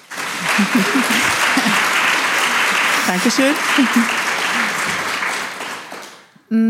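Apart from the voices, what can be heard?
audience applause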